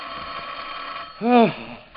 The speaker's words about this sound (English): Undersheriff Case, arriving in San Francisco late Sunday evening, had just returned to his hotel after several hours of unsuccessful search when the telephone in his room suddenly jangled.